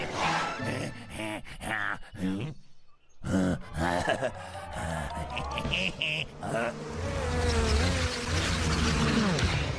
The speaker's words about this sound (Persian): هی این صدا رو میشنوی؟ شبیه صدای زنبوره.